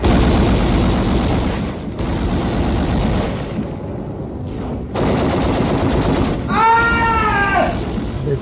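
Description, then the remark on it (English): Dense, continuous rattle of heavy enemy gunfire during a beach landing under a dark sky, as landing craft come in over the breakers, roaring almost without pause, breaking off briefly twice, with a wavering tonal whine rising over the din near the end. “The sky was dark. Lit only by the enemy's gunfire.”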